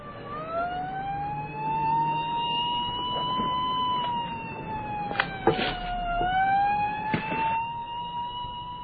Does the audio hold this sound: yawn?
no